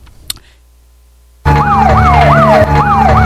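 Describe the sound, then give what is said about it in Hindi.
After a moment of near silence, a police car siren suddenly blares, wailing in quick repeated sweeping cycles over a low engine rumble. “लाल बत्तियां वाला सारे तो तुम्हारी गड्डी मगर घूम गया.”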